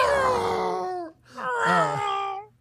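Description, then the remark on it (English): A voice imitates the scream of Darth Vader's TIE fighter as a text message tone: two loud, close, screechy wails, each about a second long, separated by a brief pause, with pitch sliding down at the ends. “Is it just probably the scream of Vader's TIE fighter?”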